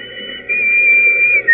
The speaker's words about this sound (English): Remember that whistle? Yes. What about it? I think it might prove no end valuable in this particular emergency. Anyhow, it's worth a try.